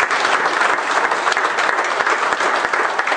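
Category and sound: crowd, audience applause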